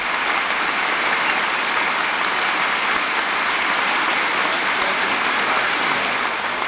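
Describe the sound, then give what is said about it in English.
Sustained applause fills the House chamber as Lieutenant Colonel John Glenn of the United States Marine Corps appears, a dense, steady roar of many hands clapping at an even, loud level for the whole stretch, with no voices rising above it. “And we probably won't be able to hear too much other than applause from now on, so let's listen to it for a little while.”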